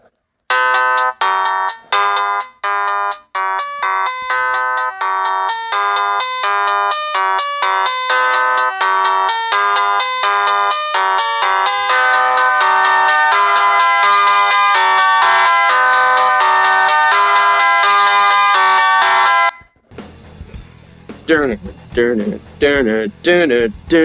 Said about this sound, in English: The Motorola V810 from 2003. Why? Because it has one of the best ringtones I've ever heard in my life. It's called Energized.